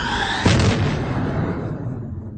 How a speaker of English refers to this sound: With roar of engine, noise profound and grand, the great Millennium Falcon takes her flight.